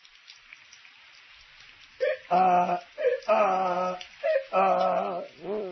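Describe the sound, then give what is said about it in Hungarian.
Heavy rain pours steadily with a soft, even hiss, then a series of loud, whining animal cries rises over it in several drawn-out bursts. “Szakad az eső, szegény Miska meg a szabadban csak ázik, ázik.”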